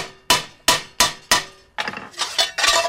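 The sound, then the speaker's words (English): A hammer strikes metal on a bending die four times in a steady rhythm to bend it into a bell, each blow sharp and loud with a short ringing decay, followed by a quicker, jumbled flurry of metallic hits. “Now what you need is, we use the hammer.”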